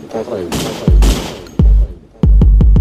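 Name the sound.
several gunshots fired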